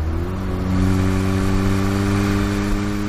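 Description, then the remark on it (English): A car engine revs up as the car accelerates along an open stretch of road, its low, steady drone climbing briefly in pitch at the start, then holding a loud, sustained hum for a few seconds. No one speaks. “Right, no cameras on this stretch. Let's open her up a bit.”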